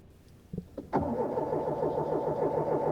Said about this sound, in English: James goes out the door and walks out across the North Brick Valley Mall parking lot. The minivan still will not start.